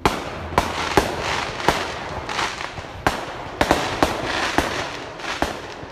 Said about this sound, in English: I spun around and ran towards the source of the fireworks, hoping to catch the hooligans in the act. When I arrived on scene, I only found smoking casings and the smell of sulfur.